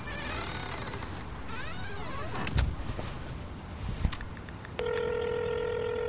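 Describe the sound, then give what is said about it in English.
A phone call to the Dream Academy goes through: warbling electronic tones and a few clicks, then a steady, loud ringing tone begins near the end and holds. No one speaks. “Want to try calling too?”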